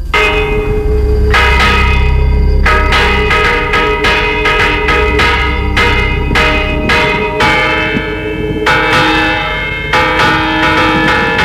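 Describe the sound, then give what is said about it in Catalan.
Church bells peal loudly and continuously, with rapid overlapping strikes whose rich ringing tones hang and blend into a dense, clangorous wash. No voices. “Esperem que les nostres anunciïn pau i prosperitat.”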